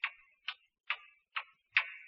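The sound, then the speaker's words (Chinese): A little goat's light hoofsteps as it goes up a mountain to eat grass, five crisp hollow taps at a steady, even pace, fairly quiet, with no voices or other sounds around them. “大灰狼听见了小羊的脚步声，就在山洞里问：“ 谁呀？”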